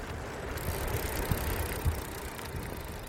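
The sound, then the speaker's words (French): A rental bicycle rolling along outdoors on an island, with a steady low rumble of tires and wind and a few light rattles and clicks from the frame, with no voices. “Comme tous les touristes, une fois sortis du bateau, on se dirige directement vers le loueur de vélo pour pouvoir se déplacer sur l'île.”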